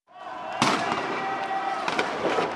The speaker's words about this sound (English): In this eyewitness video, supporters of ousted President Mohamed Morsi flee from a rain of bullets fired by security forces here.